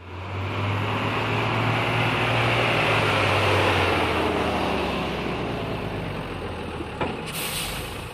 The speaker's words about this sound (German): Eines Tages war ein Tierfänger in der Stadt. Er kam mit einem großen, klapprigen Auto.